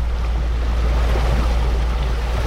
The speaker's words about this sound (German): Wir befinden uns an der Côte d'Azur im offenen Meer, etwa 5 Meilen von der Küste, vor Cannes entfernt.